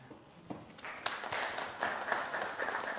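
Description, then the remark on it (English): A parish gathering applauds at the close of a talk series, a dense wash of clapping that swells after the first half-second and stays steady and fairly loud through to the end, with a few sharper individual claps standing out. “I want you to have a round of applause too.”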